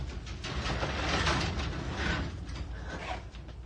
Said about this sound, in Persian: عباس لنگ لنگان به سمت در میره و در آژانس رو باز میکنه.